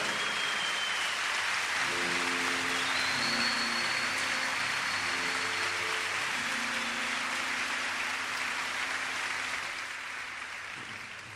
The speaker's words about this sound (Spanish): Uno se lleva los aplausos arriba de un escenario, pero en realidad ellas merecen muchísimo más aplauso que nosotros. Así que un aplauso para nuestras mujeres.